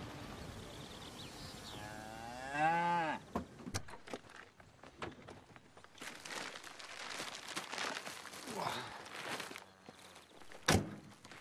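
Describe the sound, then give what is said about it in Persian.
Charolais cattle let out a long, drawn-out moo that rises and bends in pitch, followed by scattered thuds, shuffling footsteps and brief rustling noises. “اینا دیگه چه جور گاویه؟ بهشو میگن شارولا.”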